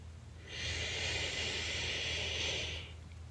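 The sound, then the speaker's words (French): A slow, deep breath drawn in through the nose while the belly swells, a steady airy hiss lasting a couple of seconds, fairly soft, with no talking. “Respire lentement et profondément par le nez en sentant ton ventre se gonfler.”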